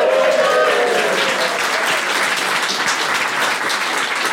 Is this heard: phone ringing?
no